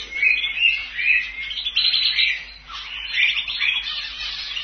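Several birds chirp and twitter continuously in dense, overlapping high-pitched calls, steady throughout, with no talking.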